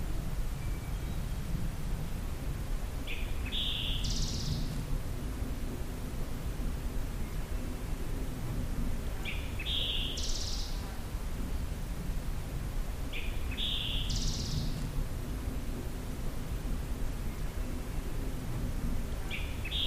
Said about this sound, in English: Does sound like a scarlet tanager.